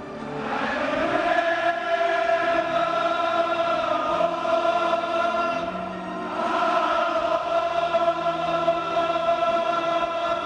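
A huge crowd of Liverpool football fans at a home game at Anfield singing their anthem together in a sustained, swelling chant, loud and continuous, briefly dipping around the middle before the voices surge back in.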